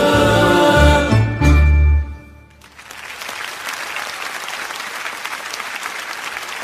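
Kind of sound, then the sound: crowd, audience applauding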